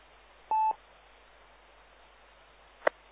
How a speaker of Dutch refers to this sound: maar dat is SST4 frequentie. Dat is allemaal gepiep en gekraakt, joh. Dat zou heel lastig worden.